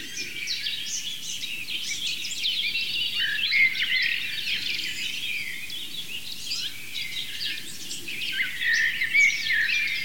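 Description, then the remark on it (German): A dense chorus of overlapping birdsong, including a chaffinch and a blackbird, fills the scene with steady high chirps and trills, and a blue tit's short call is tucked in among the other singers, hard to pick out. “Jedenfalls war die Blaumeise auch noch drin als Vertreterin der Rhythmiker.”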